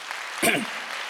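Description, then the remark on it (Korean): A church audience claps for the choir after a hallelujah hymn, a dense, even wash of applause, with a short voiced exclamation rising briefly over it partway through. “박수 한번 하세요.”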